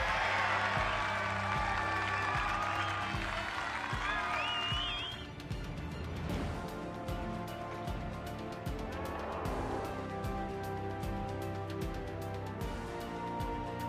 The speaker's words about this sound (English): Later on during quarterback drills, he puts it into the net, getting cheers from the crowd.